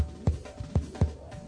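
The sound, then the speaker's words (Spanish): Deep, muffled heartbeat thumps pulse at a steady pace, four low beats in quick succession, fairly loud, with no voices. “Latiendo al ritmo de América Latina.”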